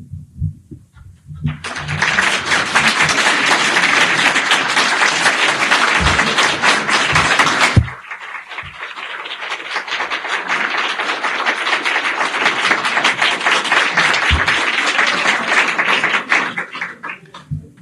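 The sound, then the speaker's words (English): An audience breaks into loud, steady applause that carries on for about fifteen seconds, a dense wash of clapping that dips for a moment midway, then swells again before tapering off. “I take this applause for the popes Gregory XVI, Pius IX, Leo XIII, Pius X, Pius XI, and Pius XII.”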